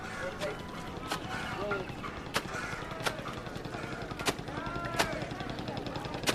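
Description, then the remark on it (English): Sharp, wet slaps ring out at irregular intervals, roughly eight over several seconds, as a man beats laundry against a rock by the river in Varanasi, India, amid busy outdoor voices and bustle, boats ferrying tourists on the river, and temple bells ringing in the distance for morning prayer. “There's a man doing laundry on a rock.”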